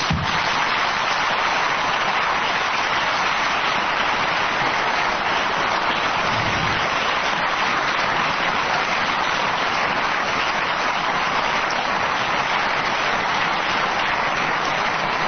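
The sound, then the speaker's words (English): Sustained, loud applause from a large audience welcoming the Reverend Jesse Jackson after his introduction, a dense wash of clapping that holds steady for the whole stretch with no speech over it. “I assure you that your applause has the impact of intimidation as opposed to insurance.”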